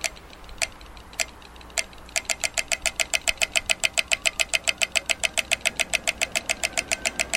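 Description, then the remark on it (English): A pedestrian crossing signal at an intersection where every direction has clicking clicks: a few slow, spaced ticks, then a rapid, steady run of sharp, bright clicks, loud over a low rumble of traffic. No one speaks. “every direction in this intersection has clicking”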